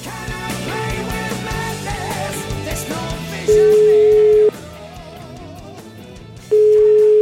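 A telephone line tone sounds as a call connects: two loud, steady one-second beeps separated by a pause, playing over a fading bed of background music.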